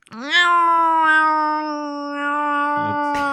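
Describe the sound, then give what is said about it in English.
A person imitates an angry cat with one long, drawn-out yowl that holds steady for about three seconds, loud, with no other sounds around it. “Why don't you show us your best cat impression? Oh, that's pretty good. Why not? Now do it like an angry cat.”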